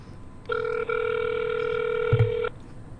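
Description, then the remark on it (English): A single steady two-second ringback tone on a phone line, the purr of an outgoing call ringing, fairly clear over a low hum, with a soft bump near its end and no voices. “But basically, while it's ringing,”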